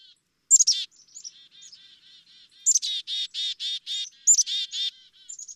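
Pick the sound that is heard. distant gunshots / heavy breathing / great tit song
great tit song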